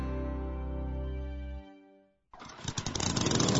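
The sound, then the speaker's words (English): A lawn mower engine sputters to life after a steady low hum fades out and a brief silence, then runs loud and rough with a rapid pulsing chug. No one speaks. “But we do, and we've got the mowers to cut it at Hogan's Trucks.”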